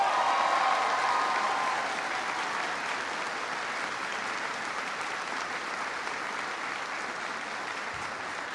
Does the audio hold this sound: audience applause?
yes